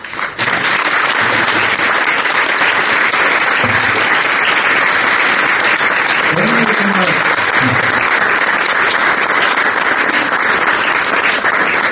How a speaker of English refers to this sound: I should really express my appreciation and a loud applause to you, but it looks so good, should I applaud you?